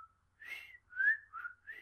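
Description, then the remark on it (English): A person whistles a TV theme tune, a short, bouncy melody: several clear sustained notes that slide in pitch, with brief gaps between phrases and no talking. “I can whistle Andy Griffin.”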